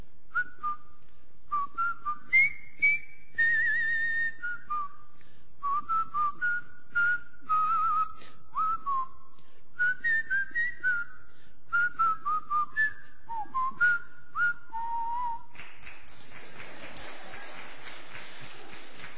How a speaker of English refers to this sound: The movie was The Longest Day, a movie about June 6, 1944. And the theme song that I can still whistle and do now sometimes is Colonel Bogey's March. Whistle it with me.